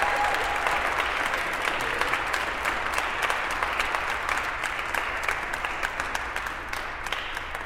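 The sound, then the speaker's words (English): A crowd applauds a group of singers at the close of a teaser concert, many hands clapping in a dense, continuous wash of sound that stays loud throughout, with individual claps flickering through before it eases slightly at the end. “Can we get one more round of applause for these amazing group of singers?”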